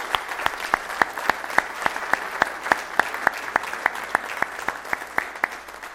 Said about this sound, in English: I hope you all got lined up better for your relay than you did for this picture. Let's give them another well-deserved round of applause.